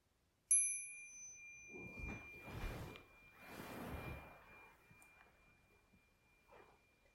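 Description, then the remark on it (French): A single bell is struck once, its clear ringing tone lingering and slowly fading while soft rustling and shuffling movement follows underneath. “Et au prochain son de cloche, nous allons nous lever.”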